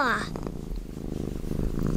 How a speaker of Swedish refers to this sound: Det känner man ju igen. Vad tror du att det betyder? Men att den mår bra. Ja, den gottar sig. Är det inte det? Ja, det är så den spinner. Ja, då myser den, och det gör den ju ofta när den är liten och får mat av sin mamma. Och diar, då spinner det